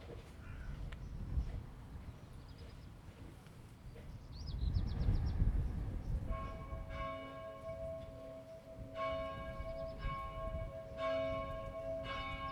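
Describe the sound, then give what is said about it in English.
A bell rings out several times with a rich, sustained resonance, its overtones humming and lingering between strikes over a faint outdoor background. “So, for instance, take the sound of the bell.”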